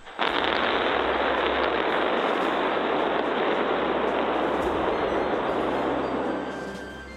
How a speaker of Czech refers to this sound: Připomeňme, že tento 70 metrů vysoký nosič o průměru 9 metrů je vybaven 33 raketovými motory Raptor 2. Po naplnění nádrží pohonnými látkami, kapalným kyslíkem a kapalným metanem přišel několikasekundový zážeh.